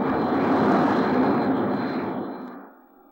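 A loud jet aircraft roars close by, a dense rushing engine noise that holds steady for a couple of seconds before fading away quickly at the end, no voices.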